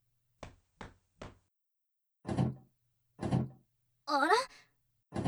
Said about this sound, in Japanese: あら、扉が開かないわよ。ねえ、あなたちょっと試してみてよ。